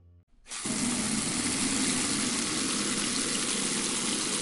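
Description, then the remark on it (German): A tap is turned on for hand washing and water gushes steadily into a basin, a full, constant hiss that holds without pause. No one speaks. “Kannst du mal das Wasser ausmachen? Das lässt man nicht einfach sinnlos laufen, das ist Verschwendung.”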